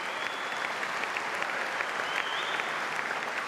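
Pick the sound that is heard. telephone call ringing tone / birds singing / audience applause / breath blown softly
audience applause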